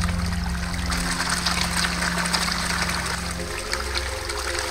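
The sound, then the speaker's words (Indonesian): River water flowing in a steady, continuous rush with a bright fizzing texture, accompanied by a low droning hum underneath throughout, with no talking. “Perlahan Lembu Swana membenamkan diri ke dalam buih sungai.”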